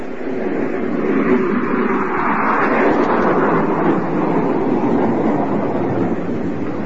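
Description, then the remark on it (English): A train pulls out of a station, rumbling steadily with a dense, continuous roar of engine and wheels and a faint rhythmic clatter, holding at a loud, even level throughout with no voices. “Just as the train pulled out of the station, the detective arrived a few seconds too late.”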